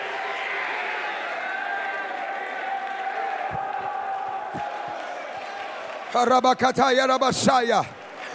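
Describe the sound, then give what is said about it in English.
A large audience of men in a church roars and cheers together in worship in a sustained, loud wash of voices, then a single voice shouts loudly over the crowd near the end. “Lift up your roar in the house of the Lord.”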